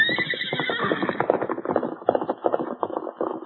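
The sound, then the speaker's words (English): A horse lets out a loud, high whinny at the start, then rapid hoofbeats pound in a steady galloping rhythm as it races down a hill, staying strong throughout. “For some time, the masked man stood watching his famous horse race down the hill.”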